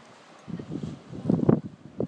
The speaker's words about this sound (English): About 100 feet. About 100 feet away. And it got quite choppy earlier on, didn't it? It started breaking, you could hear it breaking at surf coming in.